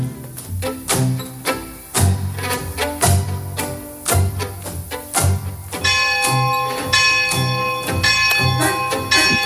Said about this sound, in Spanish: Las campanas de la parroquia de esta villa miseria llaman a misa